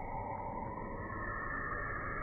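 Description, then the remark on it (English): A particle accelerator revving up: a dense, steady, loud droning hum with a rumbling low end and a faint whine above it, holding constant throughout with no voices. “You hear the sound of the particle accelerator revving up, and you see the wormhole expand all around you, filling your vision.”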